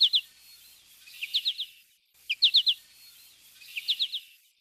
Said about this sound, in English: When a flock of goldfinches flies over, each bird rising and falling in its roller coaster flight, identification is immediate by way of this flight song.